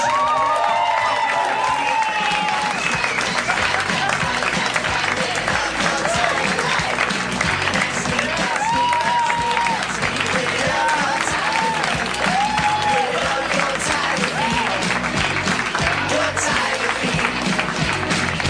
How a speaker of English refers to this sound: Please keep the emotions high and the hands clapping for the mayor of Harmontown, Mr. Dan Harmon.